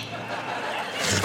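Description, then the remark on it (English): A low, rough growl rumbles for about a second by a campfire and tent at night, gritty and guttural, moderately loud, swelling slightly toward the end with no talking. “Growling sends Holly back into the tent.”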